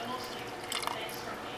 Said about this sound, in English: And a little bit of water, a little more. Okay, stir it up. Add the rest of my water that's in this cup.